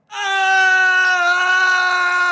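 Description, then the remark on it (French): A single loud, sustained high-pitched scream from one person, holding steady for about two seconds after a sudden start, piercing with no other sounds around it. “Avez-vous essayé de crier très très fort ?”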